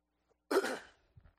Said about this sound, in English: Sorry. I'm going to have to work on that because I'm going to be clearing my throat a lot tonight.